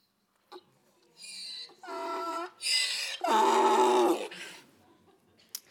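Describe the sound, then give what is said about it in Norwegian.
A donkey brays loudly in a series of harsh, wheezing hee-haw cycles that alternate between high and lower pitches for about three seconds, then tails off into quiet. “Et esel. Et stabeist. Irriterende lyd.”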